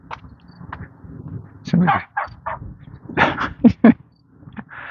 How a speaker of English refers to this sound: I have no idea what that dog is barking at. He's walking along on a leash. Spinning around on his leash.